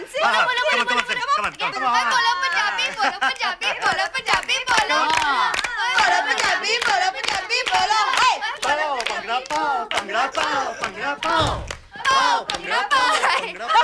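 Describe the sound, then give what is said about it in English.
An audience claps steadily for about fourteen seconds for a grammar school girl who has just spoken Punjabi, the applause mixed with loud, overlapping cheers and excited voices, with a brief dip near the end before it swells again. “Give big clap for our very almost good grammar school girl.”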